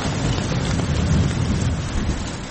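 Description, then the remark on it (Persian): Heavy rain pours down steadily on a street where people queue for a concert, a dense, constant loud roar with a deep rumbling low end like thunder beneath it and no voices. “نه بارون جدی گرفت، جدی شده بودو.”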